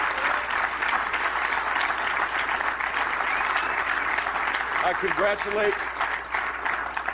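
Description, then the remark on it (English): Sustained, loud applause from a large audience as Jeb Bush announces he is suspending his presidential campaign, a dense steady clatter of clapping hands with faint voices calling out partway through, including a woman shouting no. “Biggest hand he's gotten all year.”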